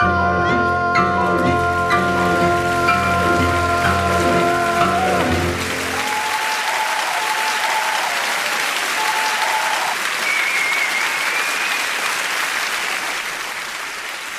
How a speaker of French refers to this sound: Il va y avoir 2 minutes 30 d'applaudissements, ça va peut-être vous paraître un peu long, mais je vous invite vivement à les écouter jusqu'au bout, ça vaut le coup.